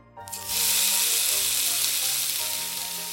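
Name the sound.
pancakes frying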